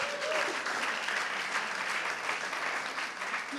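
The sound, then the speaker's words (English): An audience at a church service claps steadily for the translator, a dense wash of many hands at an even, fairly loud level throughout, with no voices over it. “Let us clap.”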